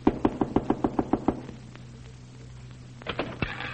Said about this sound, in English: Here, you have to knock on this door before you get in.